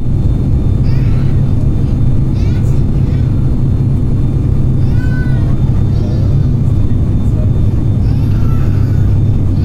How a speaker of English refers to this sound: Here's an actual recording that Bose engineers made on an actual plane. Not a flight I myself was on, although I swear this same screaming baby somehow winds up on every other flight I take.